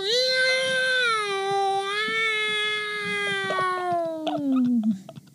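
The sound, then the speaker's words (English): A person voices a giant worm's cry, imitating an angry, hungry cat with one long, loud yowling wail that holds steady, then slowly sinks in pitch before breaking off in a few short, rough sputters. “Night Watcher worm wails like an angry, hungry kitty cat.”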